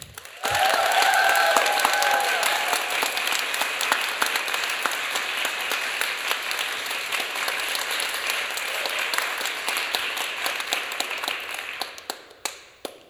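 Sustained audience applause, a dense crackle of many hands clapping steadily for about eleven seconds before tapering off, with a few faint whistles near the start and no talking.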